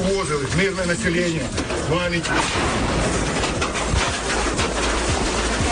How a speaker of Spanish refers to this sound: Es la lluvia de cascotes que deja la explosión de un mortero que ha caído en plena calle mientras la atravesaban un grupo de civiles en Irpin, a unos 30 kilómetros de Kiev, de la capital.